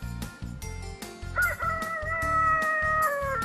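A rooster lets out a loud, drawn-out crow lasting about two seconds, rising and then trailing off, heard over a steady rhythmic backing beat.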